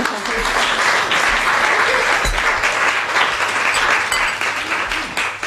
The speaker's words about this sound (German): Wir können, glaube ich, erstmal einen Applaus geben, dass sie mit uns.